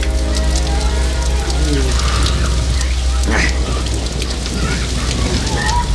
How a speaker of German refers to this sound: Langsam verschwand die Sonne hinter einer dichten Wolkendecke und bald darauf fielen die ersten Regentropfen. Innerhalb weniger Augenblicke goss es in Strömen.